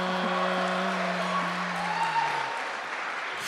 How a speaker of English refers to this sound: I've never heard one of the intros, so I don't know why we're all applauding.